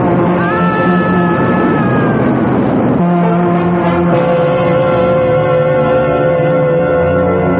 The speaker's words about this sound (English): Rakosi, look out, the train.